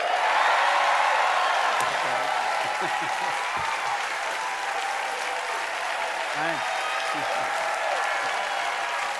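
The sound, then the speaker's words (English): Steady, loud talk-show audience applause, voting by applause on whether Robert De Niro is sexy, fills the whole stretch, a dense wash of clapping with scattered cheers and shouted voices rising through it. “Is, let's take a show, let's by applause.”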